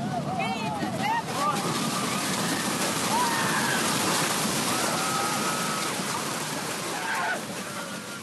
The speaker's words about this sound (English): In May, a devastating tornado ripped through Joplin, Missouri. Some people sheltered in a convenience store walk-in refrigerator where a witness recorded the scene with his cell phone.